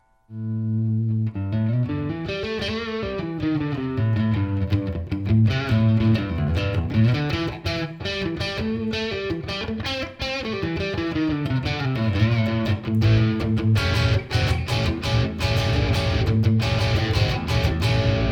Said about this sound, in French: Alors, on va commencer tout de suite à éclaircir le son en micro-manche splitté.